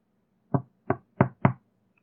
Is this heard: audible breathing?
no